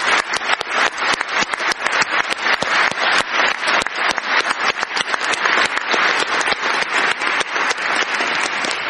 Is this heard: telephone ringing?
no